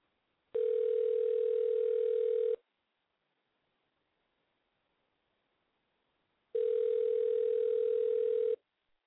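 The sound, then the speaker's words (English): Phone ringback on an outgoing prank call: two long, steady, mid-pitched ring tones, each lasting about two seconds, separated by a few seconds of silence. No one speaks. “Let's see if Ace answers his phone.”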